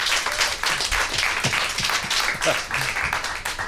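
Steady applause from a crowd for a band on stage, a dense wash of many hands clapping at an even, fairly loud level for several seconds, with no voices standing out.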